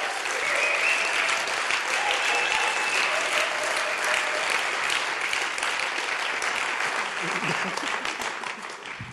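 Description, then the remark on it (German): Sustained applause from an audience as two people are thanked and invited onto the stage, a dense, steady crackle of many hands clapping at once that stays loud for several seconds before easing slightly toward the end. “Ja, gebt ihnen schon mal einen Applaus.”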